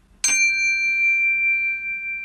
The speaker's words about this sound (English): Okay. And what just happened? Something happened. That is a Zen chime, which creates a tone to let people know that you're around. So during a debate, if he's not getting airtime. Subtle but sweet.